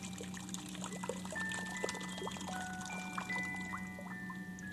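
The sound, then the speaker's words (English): Water from a waterfall pours steadily and continuously, with bubbly splashing flickers over a constant low hum, moderately loud throughout. “Waterfalls are to enjoy quietly.”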